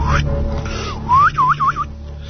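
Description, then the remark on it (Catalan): At night, a man approaching a cabin whistles a short signal tune to tell his wife he is arriving home: a rising note followed by three quick looping warbles, clear, with no talking. “Quan s'atensava cap a la cabana, va fer un xiulet característic que anunciava, amb aquest xiulet, a la seva dona que ja arribava a casa, esperant que tot seguit ella li contestés obrint la porta amb un altre xiulet igual.”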